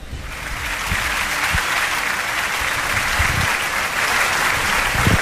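Sustained audience applause fills the whole stretch, a dense steady clatter of many hands clapping at an even, fairly loud level with no voices standing out.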